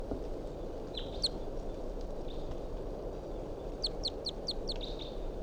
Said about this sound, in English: Wild bird in flight. Decoys responding. 327 stooping. That wild bird's out of sight now.